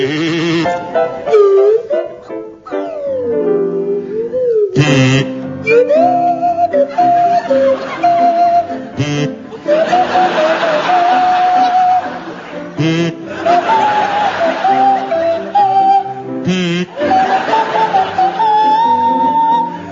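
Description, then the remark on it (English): Barry Cryer on a buzzy kazoo and Graham Garden on a sliding swanee whistle play a song from The Sound of Music, with swooping pitch glides early on, then steady stepwise notes, loud and continuous for twenty seconds. “featuring Barry Cryer on kazoo and Graham Garden on the Swanee whistle”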